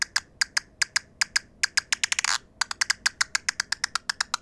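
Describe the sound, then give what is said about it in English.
A big brown bat's echolocation clicks, sharp, rapid and evenly spaced in a slow, steady cadence, speed into a brief dense feeding buzz midway as the bat captures an insect, before the regular clicking resumes; clear, with no voices. “So there at the end, that little zip, that's where the feeding buzz was.”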